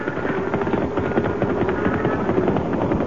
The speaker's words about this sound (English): plenty of cattle. Moving mighty fast, too. Maybe stampede. Sound like a stampede.